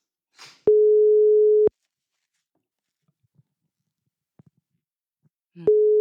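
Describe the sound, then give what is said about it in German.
A telephone ringback tone: a steady, mid-pitched electronic beep lasting about a second, then a long silence before the next tone begins. A faint click and light rustle come before it, with no talking. “Es klingelt.”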